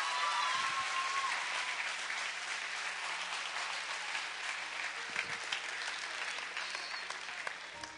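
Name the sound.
audience clapping hands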